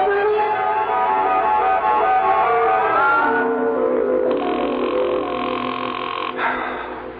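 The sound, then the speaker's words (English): A telephone rings unanswered, its buzzing trill sounding in a long, loud burst over a dense, steady background, with no one speaking. “Will you answer the phone?”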